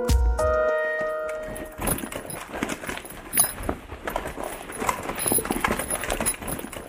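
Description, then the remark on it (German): A brief tonal chime gives way to steady rummaging through a handbag holding a glasses case and a toy car, searching for a key, with dense clicks, rustles and small metallic jingles like keys rattling among other objects, and no talking. “Wenn ich in den Tiefen meiner Tasche nach ihm grabe, überlege ich, was wäre, wenn ich ihn nicht finde.”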